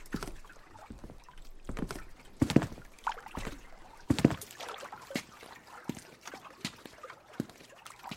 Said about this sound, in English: But then she smiled slightly and took my hand. I helped her onto the boat.